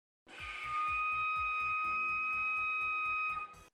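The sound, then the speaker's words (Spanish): A walrus call: a steady, piercing whistle-like tone held over a fast, regular series of low knocking pulses, about a dozen, loud and even throughout with no voices. “¿Sapo, cabra o morsa? Una morsa. Pues mira. Ahora, Leo, pues ya está. La adivinaste.”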